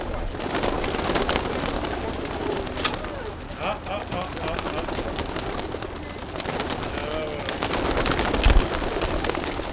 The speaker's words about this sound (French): Donc quand vous voulez pour lâcher les pigeons, je vous laisse.